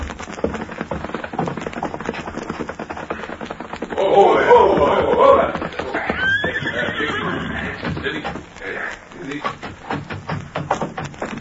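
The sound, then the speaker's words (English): A horse lets out a loud, shaky whinny midway through, with softer snorting and faint clopping hooves over a steady rustling background. “Somebody come. Yes, it's a good thing our horses are on the other side of the house.”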